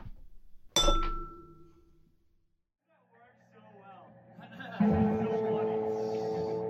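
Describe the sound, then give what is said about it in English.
Glasses clink together once in a toast, a bright ringing tone that fades over a second, followed by quiet murmuring and then a swell of several people talking at once. “Cheers. Cheers.”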